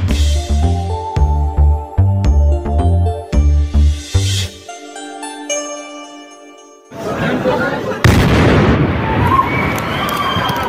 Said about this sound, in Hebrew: ביום ראשון אחר הצהריים נשמע פיצוץ עז בסדרות הסתכלל שבאיסטנבול בירת טורקיה. מטען רב עוצמה הביא להרג ופציעת אזרחים שבאו לקניות ובילוי ברחוב העומה והמוכר על ידי כל תייר בטורקיה.